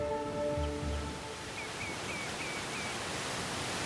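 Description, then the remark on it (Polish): A steady, full roar of rushing water from a waterfall fills the scene, with a brief low droning hum at the start and a few faint, evenly spaced chirps above the rush. “No, bo się tak skupiamy tylko, a pani nie zobaczą tego wodospadu.”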